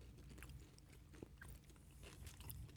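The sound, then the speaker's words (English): Crunchy chewing, a steady run of crisp bites and crackles as someone munches on crunchy food with peanuts in it, with no talking. “This tastes like crunchy, like peanuts in.”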